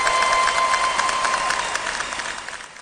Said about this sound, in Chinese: 此处真的要有掌声了。